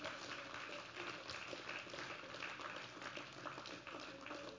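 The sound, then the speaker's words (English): A church audience claps their hands together unto the Lord in a dense, sustained burst of applause that stays loud and steady throughout, with faint voices mixed into the crowd noise. “In Jesus' name, would you clap your hands one more time unto the Lord?”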